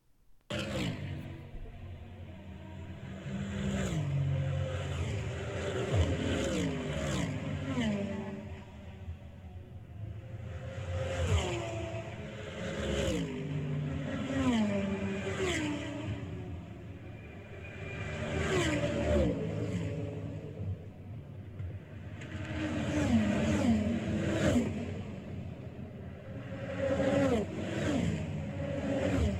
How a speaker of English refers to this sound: Now, when we start talking about the sports car race, well, you'll hear a group of different sounds, and they'll be a lot more diverse. All right, here are the sports car sounds.